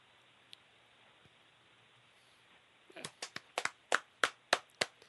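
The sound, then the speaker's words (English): After a quiet stretch, hand clapping starts up as a speaker finishes and builds into a steady rhythm of sharp, loud claps, around a dozen in all, with no voices. “Oh, what, you know, clapping?”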